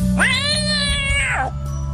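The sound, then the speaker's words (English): A single drawn-out cat meow, loud, rising at the start and sliding down at the end, lasting over a second with a faint background hum. “Nope, the cat's alive.”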